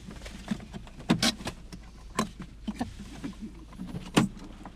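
Inside a car with a low engine rumble, sharp mechanical clicks and clunks sound, like a car door latch being worked and a passenger door opening as the vehicle comes to a halt.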